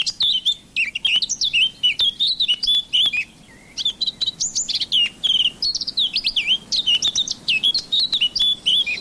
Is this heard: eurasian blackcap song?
yes